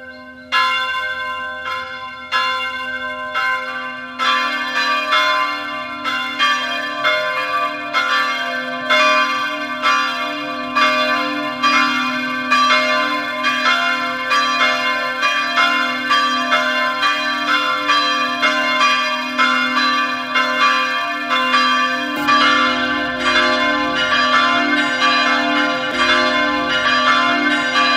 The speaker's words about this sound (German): Es ist 12 Uhr. Sie hören die Glocken der Filialkirche St. Konrad in Abersee im Land Salzburg.